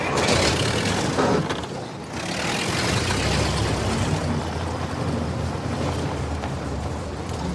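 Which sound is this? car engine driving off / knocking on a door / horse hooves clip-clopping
car engine driving off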